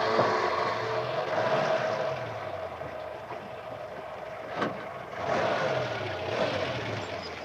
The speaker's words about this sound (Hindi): अब ये ट्रक चालू होती है।